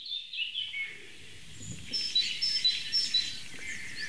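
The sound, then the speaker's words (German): A small songbird, a tit, calls repeatedly in short, high, thin notes, a few quick chirps in an irregular rhythm over a soft outdoor background hiss. “Cool, Meise.”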